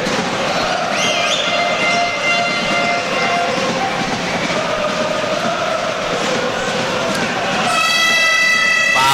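A loud, steady, buzzy basketball arena siren blares over a constant roar of crowd noise during a Napoli basketball game, kicking in during the last second or so and holding its flat pitch to the end.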